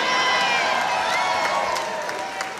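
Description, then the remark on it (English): A loud, sustained wave of audience booing fills the space, a dense crowd roar of many voices with a few scattered shouts rising above it throughout. “Only people booing ain't got no cars.”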